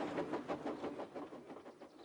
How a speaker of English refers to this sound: All he could do was watch the trains rushing through the other tunnel.